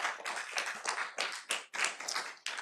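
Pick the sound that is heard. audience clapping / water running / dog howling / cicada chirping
audience clapping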